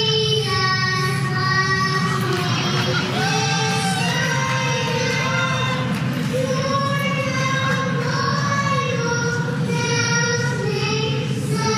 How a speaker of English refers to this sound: The crowd goes wild. As they would.